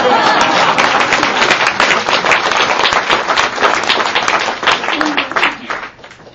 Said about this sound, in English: I appreciate the applause. Thank you.